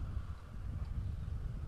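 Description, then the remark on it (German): Gusty wind buffets the microphone with a steady low rumble, and the Silent Rider initiative's banner against motorcycle noise flutters and flaps irregularly in the breeze on a main road in Hürtgenwald, in the Eifel, Aachen region, Germany. No one speaks. “Der Wind weht, das Banner knattert.”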